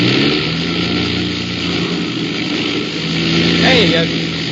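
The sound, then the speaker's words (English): Aircraft engines drone loudly and continuously, a thick, rumbling roar that dips and surges slightly as they misfire, as they have for ten minutes while the plane flies through storms in the dark, filling the whole stretch without pause. “And then I noticed the sound of the engines.”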